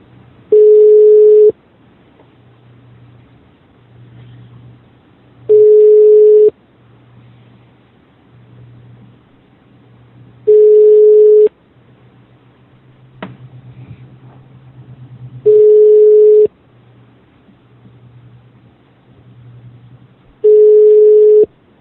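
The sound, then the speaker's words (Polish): A telephone ringback tone during an outgoing call: five steady, evenly spaced tones, each about a second long and repeating every five seconds, with faint low murmuring between them. “Ja nawet nie wiem, gdzie dzwonimy.”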